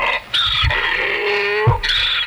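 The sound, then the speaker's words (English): An angry donkey bray sound effect: a loud, harsh bray with a strained, aggressive tone, one long raspy blast rising and sliding in pitch before a second honk at the end, with no voices. “But can we just talk about for 1 second these donkey sound effects I found real quick?”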